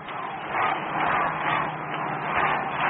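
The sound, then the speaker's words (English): A baseball stadium crowd roars in a steady, dense wash of cheering that swells and eases in waves, loud throughout, with no single voice standing out. “Listen to the crowd.”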